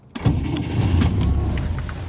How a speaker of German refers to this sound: Ich habe schon jahrelang nicht mehr das Geräusch von einem Wolga-Motor gehört.